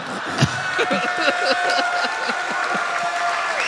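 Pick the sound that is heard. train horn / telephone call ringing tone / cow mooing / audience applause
audience applause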